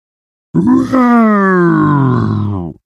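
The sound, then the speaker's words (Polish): A single voice imitates a shrill howl, one loud, sustained wail lasting about two seconds, its pitch sliding slowly downward before cutting off, with no other sounds around it. “Zawył piskliwie.”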